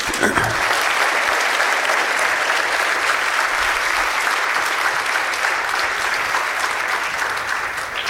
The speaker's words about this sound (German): Hier sind nochmal die Kontaktdaten und dem Applaus würde ich jetzt gerne dem Team widmen. Ja, Dankeschön.